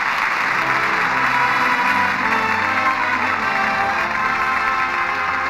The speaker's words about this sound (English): And that applause says it all.